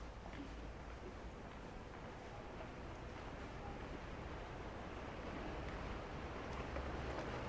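Vaporetto water buses rumble past on a canal in the darkness, their low engine drone mixed with steady splashing and wash, continuous throughout and swelling slightly louder toward the end, with no one speaking.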